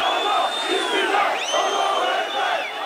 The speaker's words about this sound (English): Crowds waved flags at the late-night rallies and chanted their determination not to let anything or anyone divide the country.